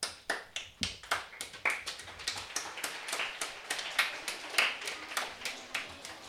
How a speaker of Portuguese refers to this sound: Pedímosvos un forte aplauso.